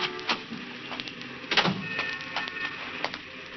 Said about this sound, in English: He was just sitting there, waiting for her to come out, when the squad car came around the corner and stopped. Two patrolmen got out.